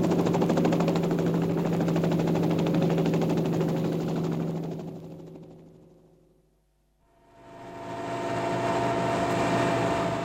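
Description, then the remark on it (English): A helicopter taking off: a loud, steady engine drone with humming tones fades to near silence midway, then swells back up to full strength. No voices. “what the hell do you think you're trying to do, land this helicopter on my place?"”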